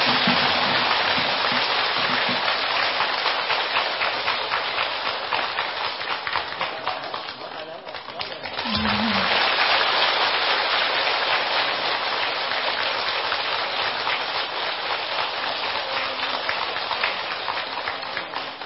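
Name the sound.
big round of applause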